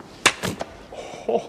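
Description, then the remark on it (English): A sharp, loud slap across the face cracks out once, followed by a couple of softer rustling impacts and a brief murmured voice near the end. “That was a slap.”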